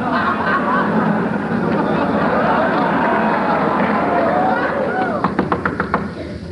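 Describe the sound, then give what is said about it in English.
A hotel room door opening, heard as a quick run of sharp clicks and rattles near the end, over a steady background of murmuring voices and noise. “Door opens.”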